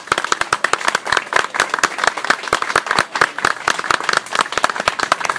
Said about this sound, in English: And I, once again, I want everyone here to give some applause to all of us.